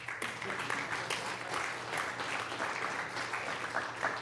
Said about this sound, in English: Thanks, whoever started that. We have to applaud that.